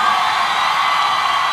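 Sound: audience cheering and applauding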